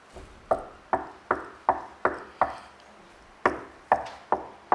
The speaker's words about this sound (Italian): Apocalisse 3:20. Dice sempre questo, ci fa leggere. Io sto alla porta e busso.